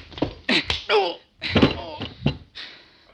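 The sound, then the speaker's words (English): Several heavy, dull thuds of a man being knocked to the floor in a fistfight land amid strained grunts and vocal effort. “Oh, then you go on the floor with it.”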